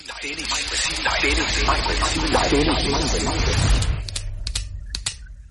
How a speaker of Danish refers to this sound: Men lad os se, hvad lykkehjulet lander på, for vi skal spinde, for at du kan vinde. Så lad os dreje en gang.